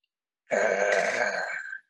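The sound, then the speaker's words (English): A single deep, drawn-out growl lasting over a second, fairly loud against silence, voiced by a person imitating an animal's menacing rumble, coming from the shadows along a woodland path. “Before they had gone very far, they heard a deep growl coming from the shadows.”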